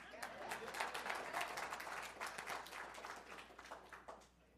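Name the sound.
audience clapping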